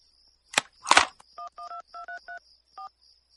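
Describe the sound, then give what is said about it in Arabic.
Two quick clattering knocks, then a run of about seven short telephone keypad dialing tones, clear, beeping at an uneven pace with a faint high whine underneath. “الهاتف.”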